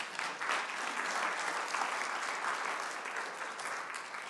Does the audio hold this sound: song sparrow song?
no